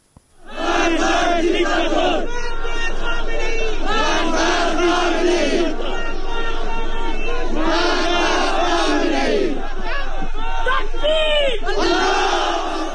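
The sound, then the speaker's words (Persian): A large crowd of protesters in the city of Khash, Sistan and Baluchestan, chants and shouts during clashes in loud, surging waves, many voices rising and falling together in rhythmic bursts over a continuous roar of agitated yelling. “گزارش‌ها و ویدیوهای منتشر شده در شبکه‌های اجتماعی از اعتراضات و درگیری‌هایی در شهر خاشنیز حکایت دارد.”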